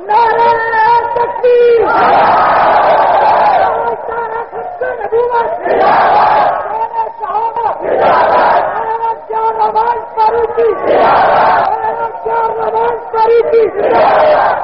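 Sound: crowd chanting slogans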